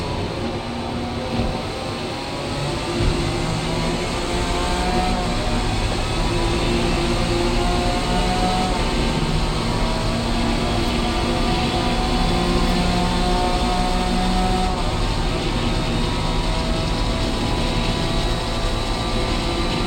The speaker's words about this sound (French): Par exemple, là on avait la voiture de l'extérieur, et là je vais repasser en vue intérieure. Et le son va changer aussi.